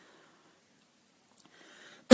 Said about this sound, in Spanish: Respondiendo a la pregunta, perdón por la tos